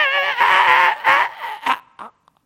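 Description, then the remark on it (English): A goat screams as it is slaughtered, its throat being cut, one morning in a village: loud, strained, wavering cries, one long drawn-out wail followed by several shorter, breaking bursts that fade into faint gasps, with no voices present. “everybody there knew the goat was slaughtered”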